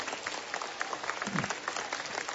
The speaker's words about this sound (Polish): Przywitajmy tych, którzy teraz wchodzą na plac Jasnogórski gorącymi oklaskami.